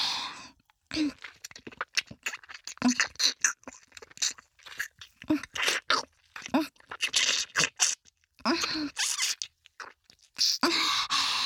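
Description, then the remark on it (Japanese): Wet ear-licking mouth sounds into the microphone, a sudden lick of the ear with plenty of saliva: irregular smacking, slurping bursts with brief pauses between them, fairly loud and intimate, with no talking. “こっちも勃起してる左の乳首をコリコリしながら、吐息を、と思わせて、いきなり耳なめ。”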